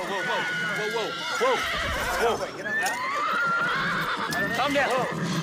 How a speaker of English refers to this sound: the horse rears, the jockey falls off.